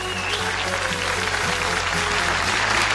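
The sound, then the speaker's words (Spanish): An audience of the show Desenchufado applauds to welcome a filmmaker guest, steadily for the whole three seconds: dense, fast, overlapping clapping at an even, fairly loud level, with a faint low hum underneath and no voices. “Aplauso y bienvenida para él.”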